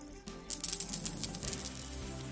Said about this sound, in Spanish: Ese sonido de las monedas, que cada vez era menos frecuente con la pandemia,